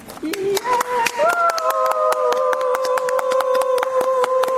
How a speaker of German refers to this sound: werden jetzt schon mal applaudieren